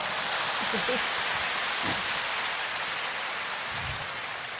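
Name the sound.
audience applause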